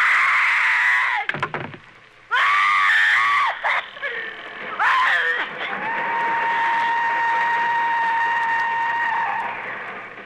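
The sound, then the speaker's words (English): Agnes Moorhead's shrill scream, as her character is attacked in her bedroom in a radio play, rises and breaks off, then merges into the long, steady whistle of a passing train at the same pitch, loud, with no talking. “And she worked it out so that her scream would be the exact pitch of the whistle of the train that was going by her home.”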